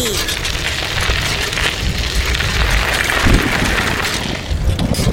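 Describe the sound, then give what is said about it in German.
A loud, sustained thunder rumble rolls on for several seconds, deep and crackling, with a steady rain-like hiss over it and a slight swell near the middle. “hast du den Donner gehört?”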